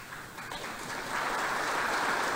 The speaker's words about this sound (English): Everyone's like, golf clap.